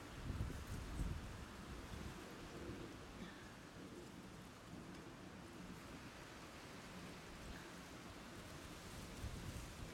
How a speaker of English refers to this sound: Yeah, it is windy. It is really windy. It is ridiculously windy.